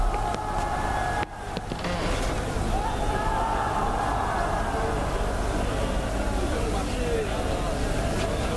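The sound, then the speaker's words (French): A large protesting crowd gathers and clamors continuously, many voices blending into a loud, steady roar of shouting and babble with no single speaker standing out, briefly dipping before surging again. “Qu'est-ce que c'est que tout ce vacarme ? La foule se rassemble pour demander à son Altesse de mettre fin à l'hérésie et à la mécréance.”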